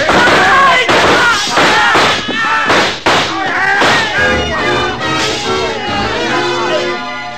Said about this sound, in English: The shooting went on for about 5 seconds, and when the glass started to come down behind us, we covered up.